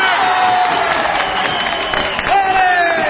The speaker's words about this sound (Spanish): El torero saluda al presidente de la plaza con media venia. El público aplaude de pie a Ventarrón.